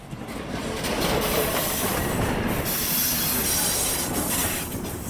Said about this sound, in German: Es ist am Abend um 5 Uhr. Vom Rangierbahnhof Limmental kommt der Zug mit 30 Wegen von Basel an.